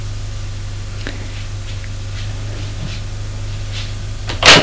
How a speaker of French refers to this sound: Elle ouvre une porte.